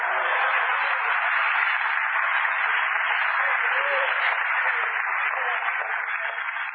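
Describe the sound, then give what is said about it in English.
A crowd claps steadily for several seconds, a dense, continuous wash of applause that holds at an even, fairly loud level throughout, with no voices standing out. “I know who you intended that for, and I had my applause.”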